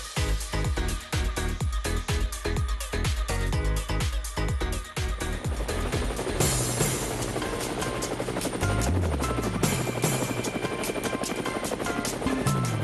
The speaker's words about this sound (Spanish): sí nos montamos en el helicóptero, pero no llevamos ni avestruz, ni jicoteas, ni nada de esto raro.